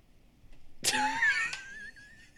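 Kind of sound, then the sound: human body sound, big yawn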